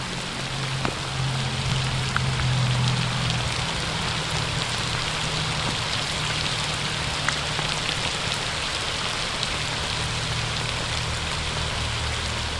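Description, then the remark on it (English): Steady spring rain patters down on a hard surface in a park, a dense wash of hiss flecked with sharper individual drops, continuous, with a faint low hum underneath and no voices. “But until then, let it rain.”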